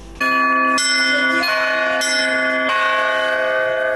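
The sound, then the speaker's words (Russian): Church bells ring out loudly from the bell tower of a convent during a tour group's visit, several overlapping strikes every half second or so, their bright metallic tones sustaining and blending into a dense, ringing wash with no voices. “Матушка Нила, по благословению настоятельницы игуменьи Даниилы, проводила группу экскурсантов на колокольню.”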